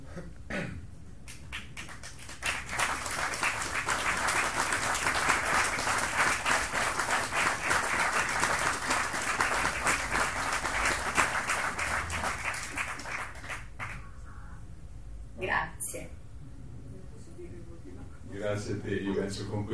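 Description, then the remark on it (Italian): A crowd at a film screening event breaks into sustained applause, a dense, crackling wash of clapping that holds steady for about ten seconds before thinning out, after which a voice begins speaking. “Con questo bel applauso possiamo anche chiudere, se sei d'accordo, questo incontro.”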